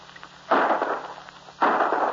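Two loud gunshots about a second apart, each a sharp crack with a rough, lingering tail, fired at a bird during a quail hunt in the woods with pointing dogs, over a faint background hiss with no talking.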